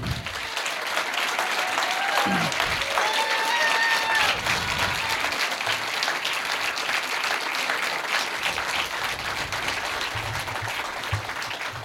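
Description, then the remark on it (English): A large audience gives one more round of applause, clapping steadily for about twelve seconds, a dense wash of clapping with a few whistles and cheers rising above it early on. “So please, just one more round of applause.”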